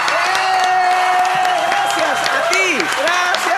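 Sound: audience applause and cheering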